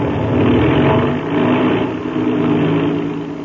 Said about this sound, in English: There. That's the way an airplane motor starts, fast as a flash.